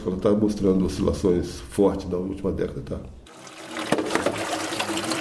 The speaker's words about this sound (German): Neben ihm säubern die Frauen des Dorfes unter dem Wasserstrahl die Fische, die die Männer am Morgen gebracht haben.